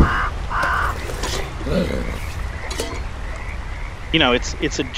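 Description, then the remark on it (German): A dense mix of animal calls from a huge video game full of birds and other animals, over a steady low rumble: croaking, frog-like pulses, harsh caws and quick chirping bird notes, with a louder burst of rapid warbling near the end. “Es ist ein gigantisches Spiel und es ist absolut voll mit Vögeln und anderen Tieren.”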